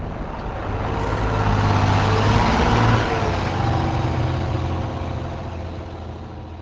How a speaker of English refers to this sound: The rest of the team gets back on the bus and heads north, up Interstate 90, a 4-hour ride to their next game against the La Crosse Bobcats.